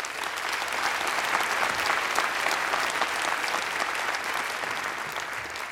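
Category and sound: crowd, audience clapping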